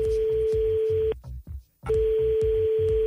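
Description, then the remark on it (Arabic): A steady electronic telephone tone sounds loudly as a phone call is placed between Mokhtar Tlili and an oil sheikh in Qatar; it breaks off for a moment of near silence, then resumes, with a rhythmic low thumping pulse running underneath. No one speaks. “تليفون بين السحار مختار تليلي وصاحبه الشيخ كارول بترول في قطر توا تفهموا كل شيء.”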